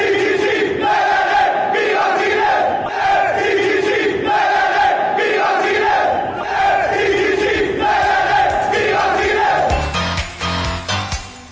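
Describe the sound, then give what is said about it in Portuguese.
A loud, noisy crowd supporting the Chile team chants a rhythmic war cry in unison at a sports match, voices rising and falling in repeated phrases, dense, with the chant breaking into scattered shouts near the end. “Vigorosa equipe do Chile, com swing sul-americano, empurrada por uma barulhenta torcida e seu grito de guerra.”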